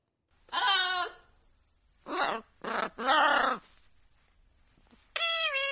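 A parrot at Radio 24/7 squawks loudly in four or five separate, drawn-out, bleating calls spread over several seconds, with brief silences between them and no talking.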